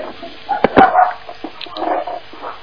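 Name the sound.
dog barking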